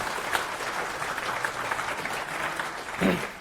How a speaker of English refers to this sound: So an extra hard applause for him. Thank you.